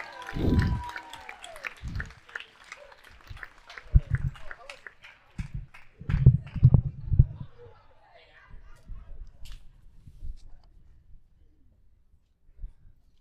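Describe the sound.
A room full of people claps briefly, scattered and uneven, with thumps and shuffling footsteps mixed in and some voices, then the clapping thins out and fades.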